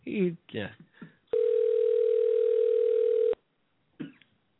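telephone line tone

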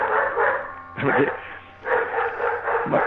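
dogs barking

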